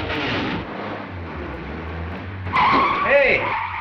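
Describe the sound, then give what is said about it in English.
A car engine rumbles low and steady, then revs hard as tires screech in a sharp, wavering squeal while the vehicle lurches away quickly, loud. “Gus lurches away in the car.”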